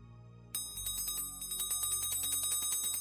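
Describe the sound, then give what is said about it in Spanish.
A small hand bell, rung beside the listener's left ear, starts ringing abruptly and keeps jingling rapidly and steadily, bright metallic peals very close and fairly loud, with no voices. “Voy a hacer sonar una campana junto a tu oído izquierdo.”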